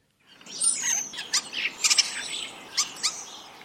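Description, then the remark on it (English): A starling sings alone in a varied, jumbled stream of whistles, clicks and short chirps, with a faint rising whistle early on and quick rattling bursts, moderately loud. “But onto a different bird now, and that's the starling.”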